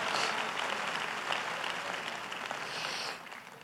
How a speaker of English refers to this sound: Come on, clap your hands unto the Lord and receive that right now.